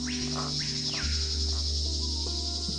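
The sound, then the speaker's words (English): A steady, high-pitched drone of insects chirping fills a jungle scene, with a few sweeping calls rising and falling over a low continuous rumble. No one speaks. “There are birds and insects.”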